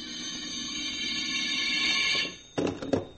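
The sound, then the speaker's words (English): A telephone rings with a loud, shrill, steady electric tone for about two seconds, falls briefly silent, then starts a second, choppier burst of ringing. No one speaks. “I could answer the phone.”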